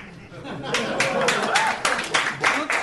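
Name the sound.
people clapping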